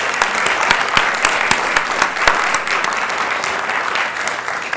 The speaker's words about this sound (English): We can all benefit from a round of applause for Kathy as well.